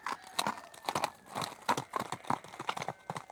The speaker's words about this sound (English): They wave their hats in the air, give a loud shout, and ride off on their horses.